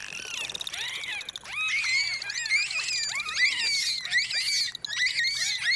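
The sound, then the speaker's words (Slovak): Bottlenose dolphins squeal and whistle in a dense, continuous chorus of high, rapidly sweeping tones, rising and falling over one another with no pauses and no talking. “Celú uštipačnú diskusiu delfínov skákavých o farbe vašich plaviek si môžete vypočuť na svojej exotickej dovolenke.”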